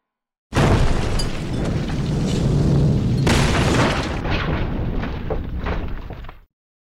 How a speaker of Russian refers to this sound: А еще через миг невероятной силы взрыв сотряс Северную башню.